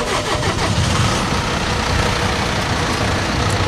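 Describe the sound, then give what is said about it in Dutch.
A tractor with an extra-wide wheel track idles, its engine a steady, loud, low rumble with a rough mechanical chug that holds constant throughout, with no voices. “Even verderop staat ook een tractor. Of ik zou eigenlijk een trekker moeten zeggen, is mij inmiddels verteld.”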